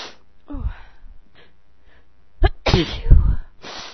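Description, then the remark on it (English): A single loud sneeze: a few halting, breathy inhales build up before the sharp explosive burst, followed by a brief trailing exhale. “I'm gonna sneeze.”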